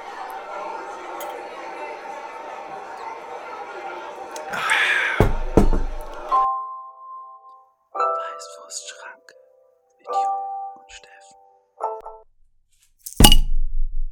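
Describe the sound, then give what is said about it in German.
Glasses of Pils beer clink together in a toast, several bright ringing chimes spaced a few seconds apart, after murmuring bar chatter and muffled voices, ending with a sharp loud knock. “2 Pilz und 2 Lütten für euch, Jungs. Ah, stell's einfach hin. Schreib's auf den Deckel, ne? Prost, Prost.”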